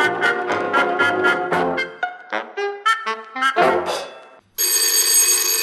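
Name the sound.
telephone ringing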